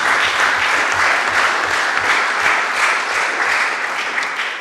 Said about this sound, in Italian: Io direi a questo punto un applauso per tutti.